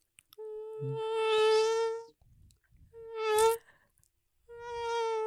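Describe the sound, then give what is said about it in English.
A person makes a nasal, whining buzz with their voice, mimicking a mosquito, in three sustained bursts separated by short pauses, fairly loud. “It's actually not a bad mosquito sound.”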